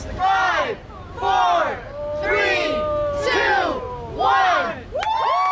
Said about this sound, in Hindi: ये आवाजें हैं उस काउंटडाउन की जिसके बाद कनाडा से ताल्लुक रखने वाले वान कार्लोस ने अपने ऊपर सबसे लंबे वक्त के लिए हजारों शहद की मक्खियां बिठाने का नया वर्ल्ड रिकॉर्ड कायम किया है।